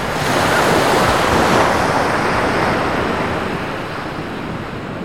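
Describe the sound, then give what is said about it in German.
A powerful tsunami wave surges and washes over a beach in a loud, continuous rushing roar of churning water, with wind buffeting the microphone; the roar eases slightly toward the end. “In diesem Moment spülte die Welle über den Strand.”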